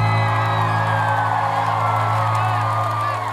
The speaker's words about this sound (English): Give yourselves a round of applause real quick.